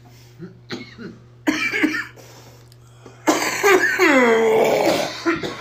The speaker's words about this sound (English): He's making me cough. Fucking stop it.